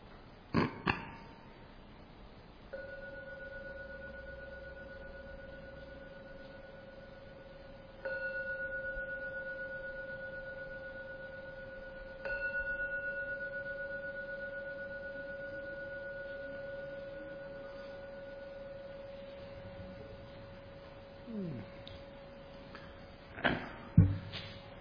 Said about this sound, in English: And I'll now ring the gong 3 times to end this meditation.